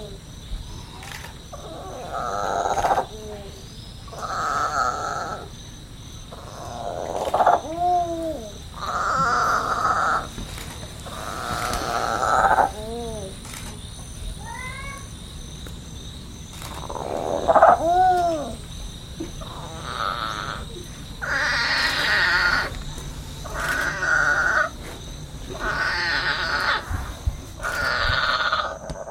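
A baby monkey whose mother was missing cries over and over in short, shrill bursts, some rising and falling into squeals, fairly loud, with brief pauses between calls and no talking, while lying in a bed of hammock string.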